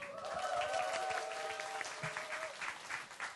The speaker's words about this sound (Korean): 노래가 참 잘 흘러가고 있었는데 박수의 타이밍을 한 10여 분께서 잘못 잡으셔가지고 뭐 다 제 탓이죠 뭐.